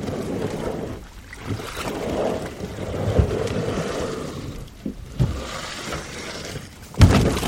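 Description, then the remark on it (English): A tandem kayak hull scrapes and slides off the shore into Split Rock Reservoir as it is pushed out on a sunny weekday morning, with a steady wash of splashing and rumbling, broken by a few sharper knocks and sloshes near the end. “Stephen Mosca pushes me into Split Rock Reservoir before jumping into the tandem kayak we have borrowed for the day”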